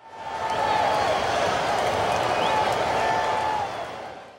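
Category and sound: crowd, spectators cheering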